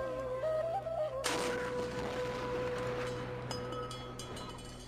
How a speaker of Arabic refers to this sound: أخاف من صوت المدفع، عادي أسد بنية؟